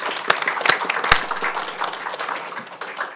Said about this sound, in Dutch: En u wordt verwelkomd door uw collega's met een prachtig, evenzeer prachtig applaus.